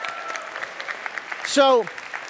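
An audience at a church service claps steadily throughout as a man comes up to be one of the narrators, a dense crackle of many hands, with a short falling vocal cheer rising above the applause just past the midpoint.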